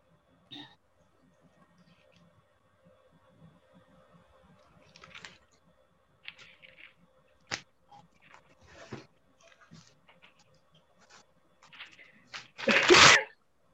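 A single loud sneeze bursts out near the end, after a stretch of quiet rustling, soft clicks and faint, indistinct murmuring as people look up Bible verses with a pastor.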